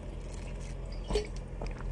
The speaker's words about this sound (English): All right, hold on. Let me have a sip.